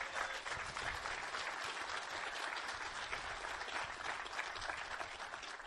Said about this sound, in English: So why don't you clap to each other? Tak si zatlieskajte.